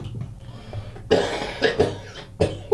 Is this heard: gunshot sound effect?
no